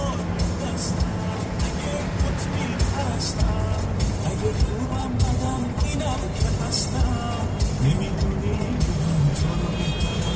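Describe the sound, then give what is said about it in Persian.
A steady, continuous engine rumble and road noise, like riding inside a moving car, holding at an even moderate level throughout with faint hiss and soft ticks above it. “ماشین عطا و نگاهش به باران.”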